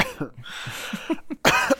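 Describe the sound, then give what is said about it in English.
A loud cough bursts out near the end, harsh and breathy, preceded by quieter throaty murmurs and faint vocal sounds. “Yeah, you can mute your microphone when you cough.”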